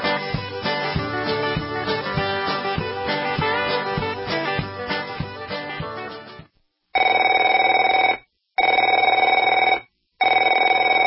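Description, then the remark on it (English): In a radio advertisement about debt, after several seconds of busy music, a telephone rings in loud, steady bursts, about three rings separated by short pauses, with a bright, buzzing electronic tone. “Afraid to answer it? Afraid to answer your door?”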